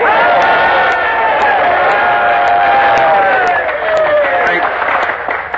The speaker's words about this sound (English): You are waiting to cheer a man who has come back to this colony with an important announcement for all of us. Well, cheer him in.